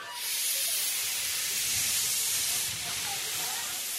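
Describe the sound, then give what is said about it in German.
A steady, loud hiss of steam from a historic steam train on the Channel coast, which circles the nature reserve of the Somme bay, broad and continuous like a steam locomotive venting, with faint low rumbles and clanks underneath. “Wer ein besonderes Erlebnis hier oben an der Kanalküste sucht, der sollte zum Abschied die historische Eisenbahn nicht verpassen.”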